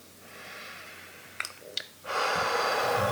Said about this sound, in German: Ist gut durch die Nase übrigens zu atmen. Man kann aber auch mal durch den Mund ausatmen, seufzen. Aber die Nase ist schon das bevorzugte Nasenorgan.